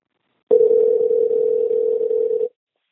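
A single steady electronic phone tone sounds for about two seconds, the ringing heard on the line as a recorded phone call connects. It is clear and fairly loud, with no talking.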